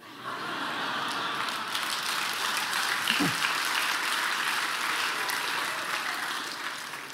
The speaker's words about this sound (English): they want to know. They're gonna clap. He says to me, I thought we get to do that either way.